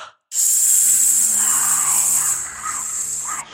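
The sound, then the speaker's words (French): A long, forceful hissing exhale through the lips, steady and loud for about three seconds with a slight dip near the end, done as a hissing abdominal (belly) breathing exercise by an actor warming up on stage before a performance, with no talking. “Idéalement, vous arrivez une petite heure à l'avance afin de prendre possession du plateau, de faire quelques exercices de respiration ventrale sifflante”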